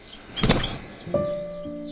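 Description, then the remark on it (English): A quick flurry of wingbeats as a frail common blackbird, released from a man's hands back into nature, takes off, followed by a thin, steady whistling tone, with no voices. “Then, and this is why we were there, he kindly let us tag along as he released a frail common blackbird back into nature.”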